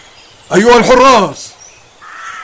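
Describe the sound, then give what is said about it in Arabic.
A single loud rooster crow with a wavering, drawn-out call lasting under a second, followed by quiet background sounds. “أرجوك أن تمنعه من الصياح صباحا. ماذا؟ الديك يزعج أهل الغابة؟”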